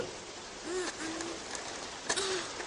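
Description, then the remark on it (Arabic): Steady rain hisses evenly and continuously throughout, with a few soft low hooting tones rising briefly above the downpour. “سأجرب أن ألعب وأتحرك وأغتسل تحت المطر لأكون نظيفا. ما أجمل المطر.”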